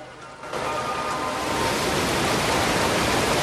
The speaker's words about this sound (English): The rush of white water tumbles down over a gentle incline.